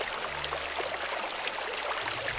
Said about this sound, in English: Water.